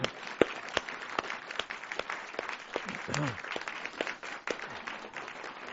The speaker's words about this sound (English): We also want to thank and please welcome our special guest artist to Louisville. Join me in a round of applause for this wonderful performance today.